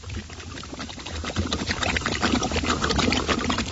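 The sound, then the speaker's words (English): Continuous bubbling and gurgling of mud bubbles, a dense, busy stream of small pops and burbles that grows slightly louder partway through, with no talking. “And then over here... there's more bubbles. Listen to this.”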